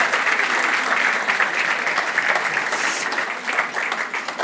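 An audience applauds steadily for several seconds, a dense, even wash of many hands clapping at a fairly loud, constant level, with no voices standing out.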